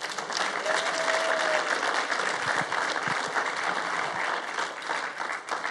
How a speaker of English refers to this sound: See, I don't even have to tell them. They just start clapping.